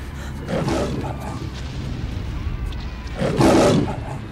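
A loose lion roars twice, deep and rumbling, with a pause between the two bursts; the second roar is louder, over a low background rumble.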